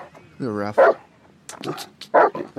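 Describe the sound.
A dog named Ruff lets out a drawn-out yelp followed by several short, sharp barks in quick bursts, with people talking over and between them, as it jumps around and nips at players during a ball game on a field and is being called off the field.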